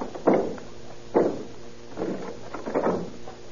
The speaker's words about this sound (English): Help me open the door. Have you got a key? No, she's locked it from the inside. Well, we'll have to break it down, I guess.